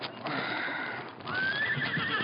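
A big white saddled horse whinnies loudly and close by, down by a stream in the hills at dawn, a shrill, quavering neigh that rises and wavers in two bursts, with faint shuffling underneath.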